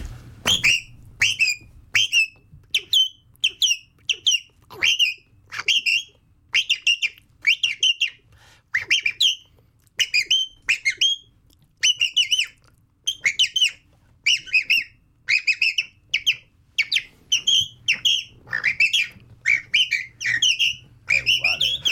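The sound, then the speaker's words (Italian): A song thrush sings clearly, a rapid series of short, bright whistled and chirping phrases repeated over and over with brief pauses, steady and loud with no voices. “vogliamo far saltare con un altro uccellino qualcuno? Sì. Cosa ci fai? Un tordo bottaccio.”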